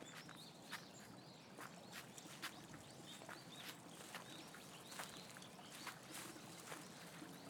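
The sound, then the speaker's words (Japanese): A small river flows steadily, a continuous watery rush broken by frequent bright little splashes and trickles, with no voices. “あ、小さいけど川もあるんだ。暑い時ならこの川の音が涼しく聞こえるんだろうけど、今はちょっと寒くなっちゃうね。”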